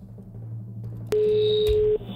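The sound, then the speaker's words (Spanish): A telephone number being dialed on Radio Olé to call a contest winner live on air: a click, then one steady electronic tone held for almost a second, heard clearly over a low background rumble before it cuts off. “Bueno, vamos a marcar el número de teléfono.”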